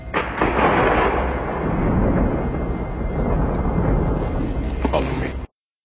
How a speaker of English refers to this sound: Great timing on the thunder and lightning there, I think.